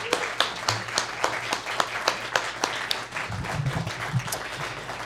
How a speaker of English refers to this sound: How about one more round of applause for all those wonderful songs?